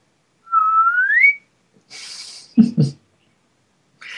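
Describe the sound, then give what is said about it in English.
Birdsong from outside a window: one clear, rising whistled note lasting under a second, followed by a stretch of soft hiss and a couple of short, low voice-like bursts. “I've got real bird song out my window right now. They're going crazy.”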